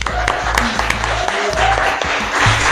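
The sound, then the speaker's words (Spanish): A steady burst of applause from a crowd, dense overlapping claps with a few sharper individual hits, fairly loud throughout, with faint voices murmuring underneath. “Lean mucho, escuchen mucha música y si se animan, escriban y aplaudan, por favor.”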